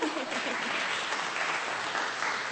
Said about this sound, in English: Clap. Okay, we got a few claps.